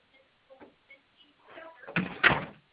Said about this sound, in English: Sorry, I just had to close the door. It was a bit loud outside here.